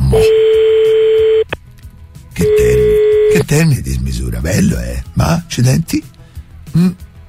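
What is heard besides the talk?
telephone keypad dialing tones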